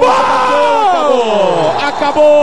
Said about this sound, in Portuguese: Faltando 3 segundos. Agora sim. A torcida grita eliminado.